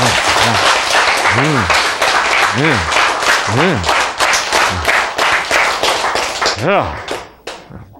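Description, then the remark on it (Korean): A crowd applauds loudly and steadily for several seconds, a dense wash of many hands clapping, with a few short vocal shouts rising over it before the clapping thins out at the end. “자, 박수 한번 치셔야지.”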